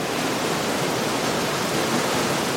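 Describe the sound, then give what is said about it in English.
A steady, loud rush of the Urubamba River in the Peruvian jungle fills the whole moment, a dense, unbroken roar that never rises or falls, with no voices over it. “Guys, I can see the river.”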